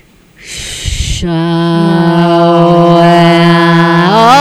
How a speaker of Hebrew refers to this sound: שאיפה, נשיפה, ואז מוסיפים כל נשימה ותנועה. שימי לב שהתנועה נוצרה באופן טבעי.